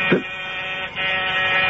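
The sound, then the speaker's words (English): A steady electric door buzzer drones for nearly two seconds, a harsh, even hum rich in harmonics, with a brief dip in the middle before it continues. “Someone's at the door,”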